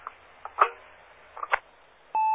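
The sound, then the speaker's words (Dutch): A radio transmission ends as the speaker unkeys the microphone: a few crackly bursts of static and clicks, then a short, steady mid-pitched beep tone that cuts off abruptly. No one speaks. “Ik hoor dat je de microfoon loszet.”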